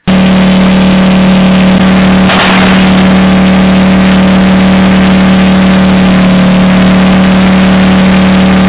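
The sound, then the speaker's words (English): A Ukrainian tank engine roars loud and close, a steady heavy drone with a deep hum throughout and a brief rough surge partway through. No one speaks. “That's a tank, Ukrainian tank up close. That's the engine.”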